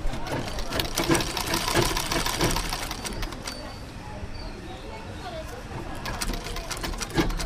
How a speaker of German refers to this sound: Der Stoff erreicht die Schneiderin. Sie sitzt hinter einer Nähmaschine aus den 60ern.